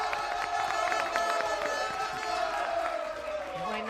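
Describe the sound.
An audience applauds and cheers during a quiz contest to encourage the Elías Príncipe Felipe team from the barrio del Pilar, with dense clapping and many voices blending into a continuous, fairly loud roar that holds for several seconds.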